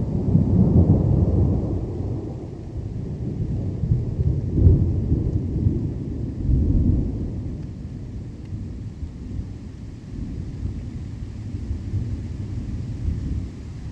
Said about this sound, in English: This is from the ZBS CD, ….